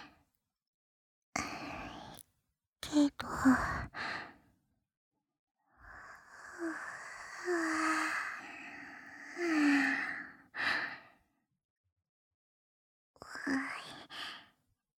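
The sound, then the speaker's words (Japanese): A long, breathy yawn swells and fades, with shorter sighing exhales before it and a brief breath afterward, all in near silence. “あくびが出ちゃったの。”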